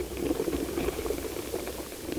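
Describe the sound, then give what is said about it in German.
Earthworms and insects burrowing through soil, recorded with special microphones in Switzerland, heard as a dense, steady crackling and fizzing, like a faint simmer, with tiny clicks and scratches throughout and no voices. “Regenwürmer und Insekten sind in dieser Welt die Riesen. Und so klingt es, wenn sie sich durch den Boden arbeiten.”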